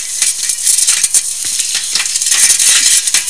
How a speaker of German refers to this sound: Mit einem Hämmerchen werden die Steine gelockert und dann herausgehoben. Alles Handarbeit.